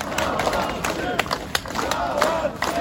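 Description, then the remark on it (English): A lively crowd outside a jail cheers and shouts as it greets three men walking out of a large grey metal door, scattered claps ringing out and overlapping voices forming a dense, continuous roar that stays fairly loud throughout. “Three men walk out of a large grey metal door, smiling shyly as they're greeted by the crowd outside the jail.”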